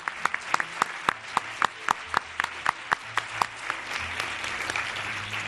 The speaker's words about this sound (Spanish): Un aplauso histriónico para que sepa que esto está a reventar.